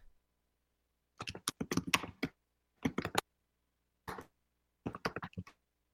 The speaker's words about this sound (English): I did hear you typing